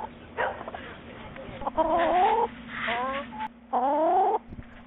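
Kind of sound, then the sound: bird, chickens clucking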